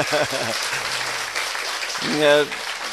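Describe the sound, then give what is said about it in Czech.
An audience claps steadily throughout, a dense crackling patter of many hands, while voices speak and call out over the applause. “Tak bychom měli zatleskat aspoň, že jo?”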